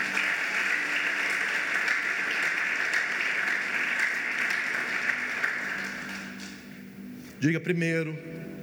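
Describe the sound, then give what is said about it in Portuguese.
A crowd applauds Jesus steadily for several seconds, a dense wash of clapping that fades out as a man's voice begins speaking near the end. “Essa é uma ótima palavra, você devia aplaudir a Jesus por ela.”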